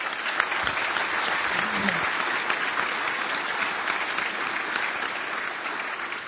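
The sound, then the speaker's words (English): Sustained applause from an audience giving a round of applause for the speakers and helpers: steady, dense clapping at an even level from start to finish, with no voices standing out above it. “So if we could, I'd like everybody to give a round of applause for the speakers and for the helpers.”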